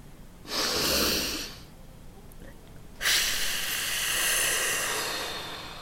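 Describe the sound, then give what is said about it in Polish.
An airy inhale lasting about a second, then a held breath of near silence, followed by a longer, steady exhale that slowly fades, as part of a breathing exercise done lying down. No one speaks. “Wdech, zatrzymanie i dopiero wydech.”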